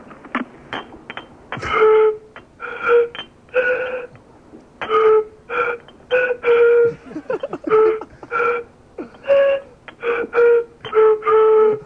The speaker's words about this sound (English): so I thought I'd give it a go in a few empty beer bottles. Oh, so you formed them into a musical instrument.